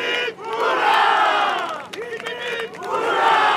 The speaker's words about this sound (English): Foghorns salute the victor, and firecrackers streak across the sky. The crowd cheers wildly as Arca takes a victory lap, and its 27 crew members wave with joy.